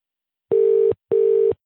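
Two short, steady electronic ringback tones pulse back to back, the familiar double burst of an outgoing call placed via Skype to a regular phone line, ringing on the line, clear and alone with no voices.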